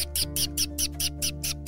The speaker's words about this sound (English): But the two strolled along happily, enjoying the peaceful sounds of the forest. They listened to the wind blow between the trees. The animals chittering in the branches,